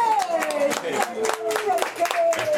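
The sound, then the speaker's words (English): An audience at a basement poetry reading claps steadily in a dense, uneven patter of many hands that stays loud throughout, while a raised voice calls out over the applause. “Who's being applauded.”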